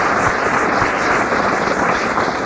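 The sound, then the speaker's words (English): A steady wash of crowd applause for the organizer of the event, many hands clapping at once in a dense, even patter that holds at a loud level throughout with no voices over it. “a round of applause, he put this together.”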